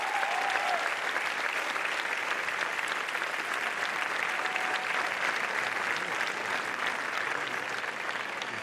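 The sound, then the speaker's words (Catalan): A crowd claps steadily for several seconds for two RAC1 journalists, a dense, sustained wash of applause that stays loud and even throughout, with no voices standing out. “Sisplau, un aplaudiment per ells.”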